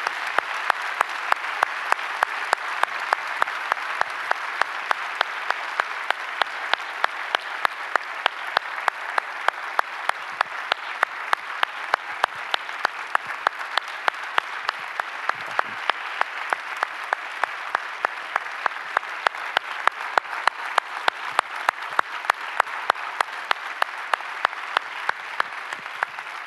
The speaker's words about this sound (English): Would you, in all of our locations, even online, would you give God an applause to thank him for all that he has done?